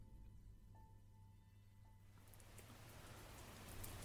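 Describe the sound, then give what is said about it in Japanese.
Steady rain hisses and patters, starting fairly soft and swelling into a fuller, denser downpour partway through. A faint tonal hum lingers early on, and no one speaks. “犯行当日ってのに雨かよ、最悪。”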